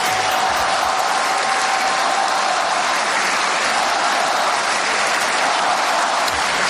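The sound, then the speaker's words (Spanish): A large tennis stadium crowd at Roland Garros in Paris, all standing, applauds continuously in a dense, steady roar of clapping, loud and sustained throughout with a faint murmur of voices mixed in, an ovation for the Mallorcan player Rafa Nadal after his defeat. “El balear ha recibido una emocionante ovación de toda la grada puesta en pie.”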